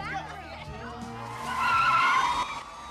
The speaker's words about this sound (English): Police cars screech up the drive of Cece's sorority house.